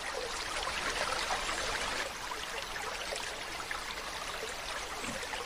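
Steady splashing and bubbling of water from a fountain on a round square in the middle of an avenue lined with tall trees, a continuous wash of falling droplets with no pauses, moderately loud, without any voices.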